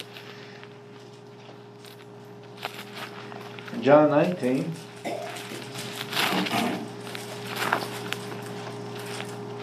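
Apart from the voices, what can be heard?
bible pages turning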